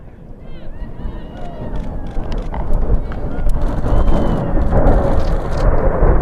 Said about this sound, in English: The first two F-35s to arrive showed themselves off to the small crowd gathered on the tarmac with a few flyovers before landing for the first time at their new home.